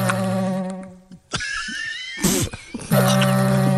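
Music played on vegetable instruments: buzzy, reedy drones with stacked overtones, a brief pause, then wavering, sliding higher tones and a noisy burst before a loud, steady droning chord returns.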